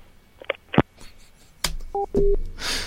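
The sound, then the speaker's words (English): Two short, clear telephone keypad tones beep in quick succession after a few sharp clicks and handling knocks, followed by a burst of hissy noise. “Well, you know, I enjoy your summer, but I really wish you would stop making these phone calls.”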